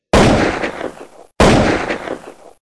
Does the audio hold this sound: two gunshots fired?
yes